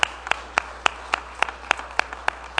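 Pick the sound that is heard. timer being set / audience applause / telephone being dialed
audience applause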